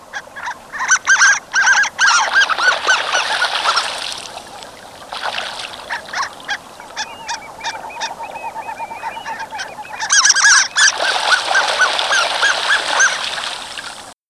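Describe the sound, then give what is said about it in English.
Harlequin ducks (Histrionicus histrionicus) call in bursts of high, squeaky notes, several birds chattering together in rapid, overlapping series, loud, with a brief lull midway before the squealing chorus swells again. “Our mystery bird today is the harlequin duck.”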